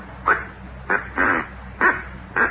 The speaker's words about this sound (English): Oh, this is a duck call. I ordered all the way from St. Louis. It just come in the mail. Doesn't sound like any duck I ever heard.